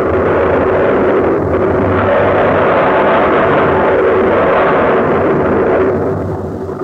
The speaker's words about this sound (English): Music of mountains in Iceland. Deep underground are rivers of molten rock. The hot lava, the hidden fires create pressure and drive columns of steam and boiling spray high in the air.